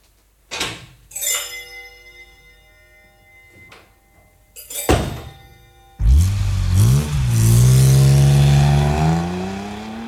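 A car door thuds shut a couple of times, then an engine roars to life and revs hard, its pitch climbing as the car speeds away loudly.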